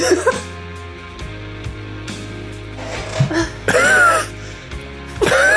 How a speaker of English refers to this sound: One hell of a cough.